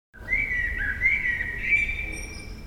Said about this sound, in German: Es lebt wieder eine verliebte Nachtigall in unserem Innenhof. Letztes Jahr war auch schon eine da. Und auch im Jahr davor. Dieses Jahr fing das mit der Verliebtheit schon Ende März an.